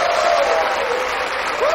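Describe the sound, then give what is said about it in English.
A crowd claps steadily, a dense wash of many hands at an even, fairly loud level throughout, with a faint whistle or cheer rising over it near the end. “The audience beams and claps.”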